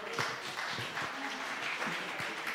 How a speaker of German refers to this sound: Richtig, 100 Punkte. Super, einen Applaus, hey, komm.